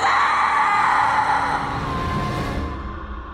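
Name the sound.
loud piercing scream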